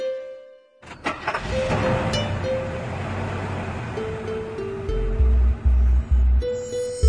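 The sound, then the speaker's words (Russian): A white Sprinter minibus on route 31 starts with a sudden burst, then rumbles and revs as it pulls away, with deep throbbing surges near the end. Fairly loud, with no voices. “Едет белый спринтер по маршруту 31.”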